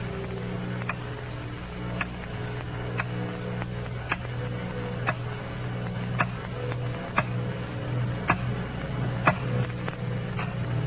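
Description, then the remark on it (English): A clock ticks steadily about once per second late at night, each crisp tick clear, over a low constant hum in an otherwise quiet dark room. “It's late at night and the clock is ticking.”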